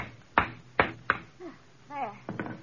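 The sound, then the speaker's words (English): Sharp hammer blows strike wood as furniture is nailed down in a room: three loud, evenly spaced knocks, a short pause as someone speaks briefly, then two quicker taps follow. “Come on, stop hammering.”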